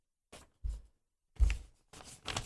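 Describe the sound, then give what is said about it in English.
Paper is scrunched right against a microphone in four or five quick crackly bursts, each with a heavy low rumble and a bright rustling hiss, separated by short silences. No one speaks. “I always love doing this because I always love hearing we're in a radio studio right now, so I feel the need to just scrunch the paper in the microphone to make it feel authentic.”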